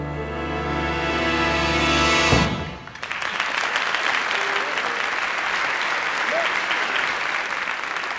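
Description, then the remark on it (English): A band's closing chord rings out, then a steady wash of clapping from a crowd takes over and continues at an even level until the end, with no voices standing out. “The applause was recorded by professional mourners.”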